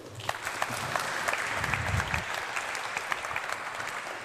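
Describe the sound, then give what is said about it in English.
An audience claps steadily to welcome a speaker to the stage for a talk on the TAPS Transport Services API, a dense wash of many hands with scattered sharper claps popping out, holding at a moderate level throughout without cheering or speech. “Please give him a great round of applause, and I'm welcoming him to the stage.”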